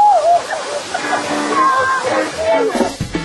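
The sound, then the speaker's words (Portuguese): A steady wash of rushing, splashing waterfall water fills the background throughout, with a person's voice talking over it. The cold water comes down with great force, forming many pools, at a waterfall in a park that a group climbs hand in hand with a guide. “A gente só consegue percorrer essa cachoeira até o início dela, porque todos os dias os guias desse parque têm esse trabalho.”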